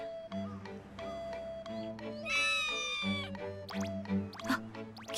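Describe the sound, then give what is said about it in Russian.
A cat gives a drawn-out, wavering meow, rising then falling in pitch, over a steady humming tonal background with a few sharp clicks near the end. “Он был где-то тут. Тот самый кот.”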